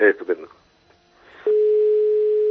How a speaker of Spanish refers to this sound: que vamos a escuchar el tono del teléfono a ver quién está al otro lado del teléfono.